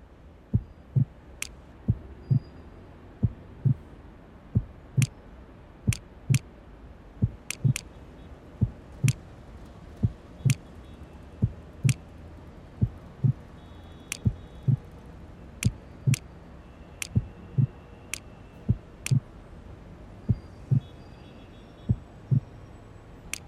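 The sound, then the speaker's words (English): A steady, rhythmic heartbeat thumps low, roughly once a second, over a faint hum, with sharp ticking clicks scattered on top and no one speaking. “Match your heartbeats to the patterns.”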